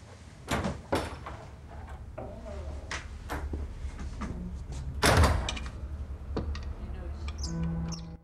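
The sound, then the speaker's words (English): A door swings shut with a solid thud about midway through, preceded by a few sharp clicks and handling knocks, all against a low, steady hum; a person leaving closes the door behind them. “I'll close the door behind me.”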